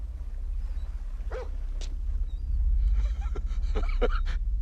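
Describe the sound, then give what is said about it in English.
A dog barks behind a gate in short, sharp bursts, a couple of isolated yaps and then a quicker cluster of higher yips, over a steady low droning hum. “Oh, let me get a leash on him.”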